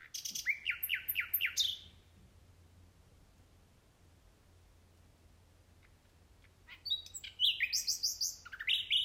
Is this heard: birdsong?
yes